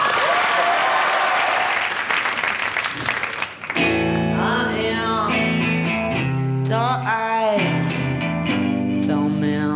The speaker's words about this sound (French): Pour leur première télé française, ovation s'il vous plaît